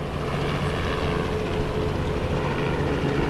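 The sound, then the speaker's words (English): A steady, droning engine roar from news helicopters buzzing overhead near the airport in Birmingham, where an Airbus A300 lay in pieces, holds a constant loud level with a faint rhythmic buzz for the whole stretch and no voices. “News helicopters buzzed overhead while police set up roadblocks not far from where the Airbus A300 lay in pieces.”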